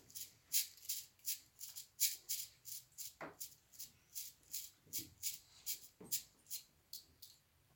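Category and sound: insect, cricket chirping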